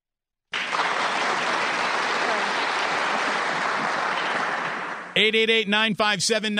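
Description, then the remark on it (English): Loud, sustained applause from a crowd as an applause break on The Damon Bruce Show fills several seconds with a dense wash of clapping. It fades slightly before a man's voice cuts in and talks over the end. “Mama, there goes that applause break.”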